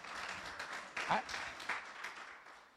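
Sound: audience applause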